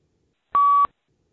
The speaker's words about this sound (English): After you hear the beep, start reading the sentences.